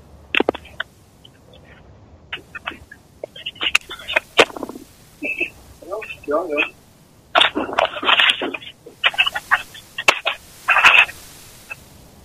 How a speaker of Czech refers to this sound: No vidíš, a už to skončilo, takže, ale slyšeli jste všichni posluchači, že posunování telefonu mikrofon to přenášelo, takže kabel mi asi funguje